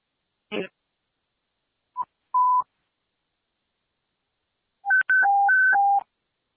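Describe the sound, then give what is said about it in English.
A fire dispatch radio evacuation alert tone, sounded at a working fire for all units to evacuate the building: after a click and a short blip, a steady beep sounds, then a loud high-low two-tone warble alternates rapidly for about a second. No one speaks. “Received. Go ahead and sound evacuation.”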